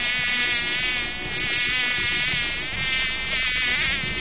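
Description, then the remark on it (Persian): A steady, high-pitched fly buzz drones continuously, wavering slightly in pitch like a fly hovering, with no speech. “بسیار خوب مگس جان.”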